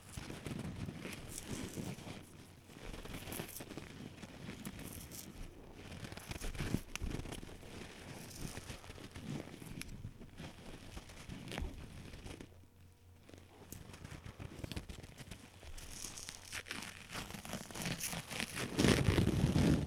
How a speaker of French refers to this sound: Attends, je vais juste déchirer du carton.